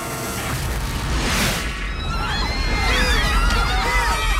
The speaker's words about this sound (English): A huge explosion sends cars flying up into the air. Everybody runs for cover.